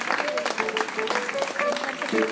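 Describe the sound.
Steady, dense audience applause lasting a couple of seconds, with voices calling out and cheering over the clapping, as a guitarist is introduced.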